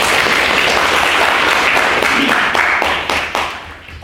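A crowd applauds with dense, crackling clapping that holds steady and loud, then thins out and fades over the last second, with a few scattered individual claps at the end.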